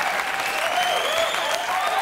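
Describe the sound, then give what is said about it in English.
A sustained burst of ironic studio audience applause, many hands clapping in a dense, steady roar with some crowd noise mixed in, holding at an even loudness throughout. “But then, by the way, I just want to point out to the audience at home, they are applauding ironically.”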